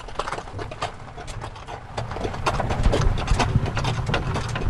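A horse's hooves clop at a steady walking pace as it is ridden, over a continuous low rumble, the irregular thuds moderately loud, with no one speaking.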